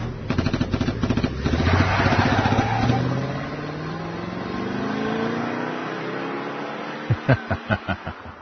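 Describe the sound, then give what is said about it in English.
The engine of a black Toyota car revs hard and climbs steadily in pitch as it accelerates away, loud at first and easing as it pulls off, followed by a short run of rapid low thumps. “There it is, the black Toyota. Go!”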